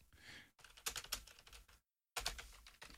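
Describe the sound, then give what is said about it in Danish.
Rapid clicking of keys on a plastic laptop keyboard, fairly loud, in quick irregular bursts with a brief pause of silence in the middle. “Jeg skriver helt almindeligt her.”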